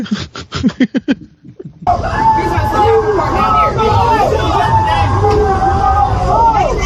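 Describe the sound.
A loud, continuous hubbub of many overlapping voices from a rowdy crowd across a body of water, shouting and jeering. It follows a brief stretch of choppy speech at the start and continues steadily to the end.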